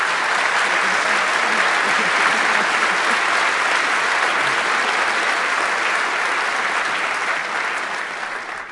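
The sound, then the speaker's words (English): A large audience at a CCC (Chaos Communication Congress) event claps steadily in a dense, sustained burst of applause, holding strong for several seconds before starting to fade at the end. “Round of applause”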